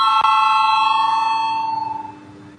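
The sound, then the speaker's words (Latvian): A parliament voting bell, rung to call a vote on a deputy's proposal, rings out as one steady, bright electronic tone with layered overtones, holding for about two seconds before fading away, with faint murmur underneath and no clear talking. “Lūdzu zvanu, balsosim par pirmo deputāta Kabanova iesniegto priekšlikumu.”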